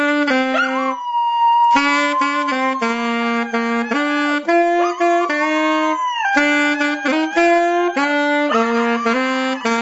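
A dog howls and yips in long wavering tones alongside a saxophone played by a 12-year-old boy, a stepping melody, both loud, with no talking throughout.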